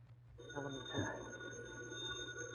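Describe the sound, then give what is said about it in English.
A telephone rings with a steady, high-pitched electronic tone, held continuously over a low background hum and some muffled midrange noise, fairly faint. “Holy crow, who's phoning at this hour?”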